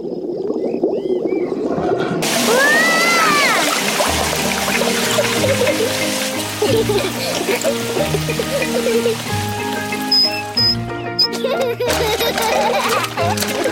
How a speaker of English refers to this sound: Peppa holds the hose. And Mummy Pig turns on the water.